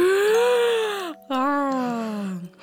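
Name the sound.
yawning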